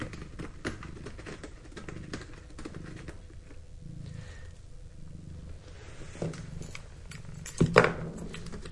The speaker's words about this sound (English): I hope you can hear. I hope the microphone picked up my cat, Tash. She's so sweet. She comes to say bye to daddy. And he's petting her and she's scratching on her scratch pad.